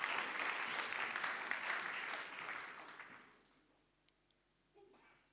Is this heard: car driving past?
no